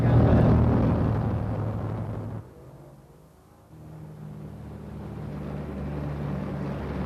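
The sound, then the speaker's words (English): A steady, droning engine of a Royal Cambodian Air Force airplane hums loudly through the whole stretch as it flies over the city of Phnom Penh, Cambodia, briefly dipping and easing off midway before the low, even roar returns. No one speaks. “We are now flying over the city of Phnom Penh, and to the left of us, along the dock area and beyond it, we can see the Tonle Sap River and the great Mekong River.”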